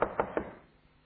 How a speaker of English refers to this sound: Now at that moment, He was outside the door, facing the door, knocking.